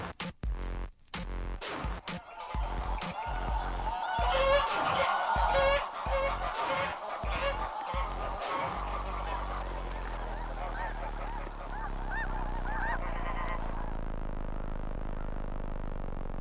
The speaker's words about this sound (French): À l'automne, elles feront le chemin inverse. Pour se mettre en situation, écoutons des oies dans leur habitat naturel.